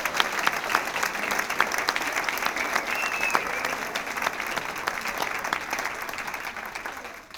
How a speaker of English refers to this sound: They'll shove each other aside to get over to that microphone. And let's have a round of applause as long as they're all up here.